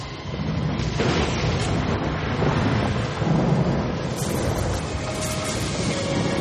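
A loud thunderstorm: heavy continuous rumbling with a few sharp crackling bursts, like lightning strikes, breaking through over about six seconds. No one speaks.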